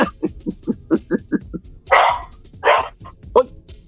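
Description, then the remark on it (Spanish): A dog barks repeatedly, starting with a quick run of short yips and then a few louder, harsher barks, with a brief muffled voice-like sound between them. “Es el perro del negro.”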